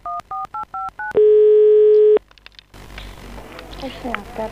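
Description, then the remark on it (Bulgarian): A phone number in Stara Zagora is dialed to report stray dogs: five short, evenly spaced touch-tone beeps, then a steady loud tone for about a second, a few clicks, and a muffled voice over line hiss. “И позваних на номера, който чухте.”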